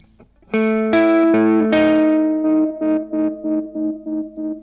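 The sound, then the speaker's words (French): A buzzy synthesizer square wave plays a short sequence of sustained notes, then rhythmic repeated stabs, through a spring reverb pedal turned down, with a subtle springy reverb tail ringing after each note. No voices. “Et on entend que c'est une réverbe de type ressort, c'est une spring.”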